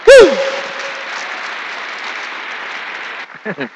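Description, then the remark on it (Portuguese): A church audience breaks into steady, full applause to the Lord lasting about three seconds, opening with a brief cry from a voice; the clapping stops abruptly as someone starts speaking. “Bata um aplauso ao Senhor por isso.”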